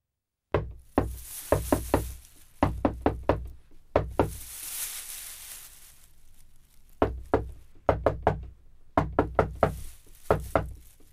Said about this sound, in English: Then why didn't you answer the secret knock? We didn't know it was a secret knock.